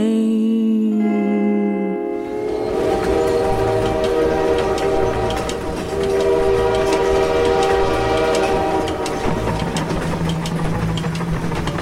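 A train horn sounds a sustained, multi-tone blast, then the loud rumble and clatter of a passing train rolls in and continues while the horn keeps blaring, close and steady throughout.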